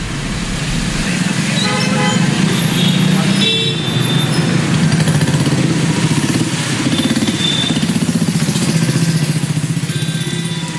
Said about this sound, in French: Il rêvait aussi d'acheter une baguette magique pour éteindre tous les bruits de Paris, les klaxons, les sirènes et les moteurs.